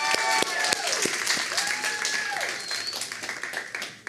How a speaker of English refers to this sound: So y'all give a round of applause to her.